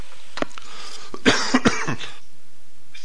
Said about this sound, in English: Sorry for the coughing, folks. I'm coming down with some respiratory stuff.